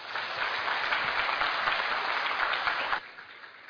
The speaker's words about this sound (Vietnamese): Và để chúng cho tràng pháo tay.